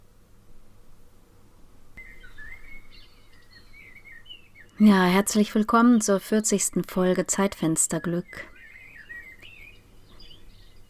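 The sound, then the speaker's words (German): Soft recorded birdsong from a Zwitscherbox, switched on in a studio, chirps quietly in the background, trilling before and after a stretch of speech from a single voice, which briefly covers it. “Während der Sturm gerade ans Studiofenster drückt, habe ich vorsichtshalber mal meine Zwitscherbox angeschaltet, um ein bisschen meiner Sehnsucht nachzugehen, der Sehnsucht nach Frühling.”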